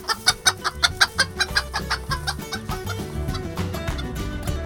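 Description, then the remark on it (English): Chickens cluck in a quick, steady series of sharp bursts, about a dozen in a row, then the clucking blurs into a softer, busier mix over a low, sustained background hum. “we actually decided just this past week that we were going to enclose our front yard and turn it into a chicken coop.”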